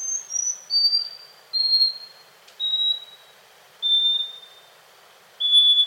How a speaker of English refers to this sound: The scaly-breasted wren lives in Central and South America and has a lengthy song of whistled notes separated by pauses.